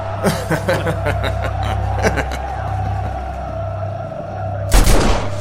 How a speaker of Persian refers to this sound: به نظرم عاقلانه بود مثل تو اول شلیک کنم.